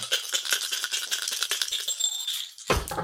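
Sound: dice being rolled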